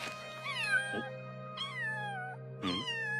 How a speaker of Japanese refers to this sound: 彼女の猫でしょうか？ありゃりゃ。 首はしてないし、野良じゃないの？